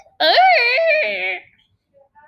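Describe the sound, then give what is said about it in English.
A person imitates a cheetah's chirp with a single loud, high-pitched, wavering squeal lasting just over a second. It stands alone and is followed by near silence. “They growl, they chirp, and make like other sounds. Like this?”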